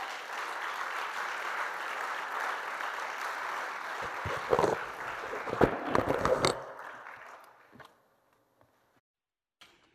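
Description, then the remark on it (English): A crowd claps steadily in praise of the Lord for several seconds, a dense wash of hands with a few sharper, louder claps near the end before it thins out and fades into near silence. “Can you give the Lord a hand clap of praise?”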